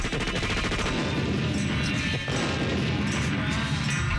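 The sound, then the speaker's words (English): A voice imitates an explosion to make a macaque monkey run away: a loud, sustained burst of rough, crackling blasts and rumbling noise that barely lets up for about four seconds. “Maybe by explosion, we'll, my sound effect will make him run away.”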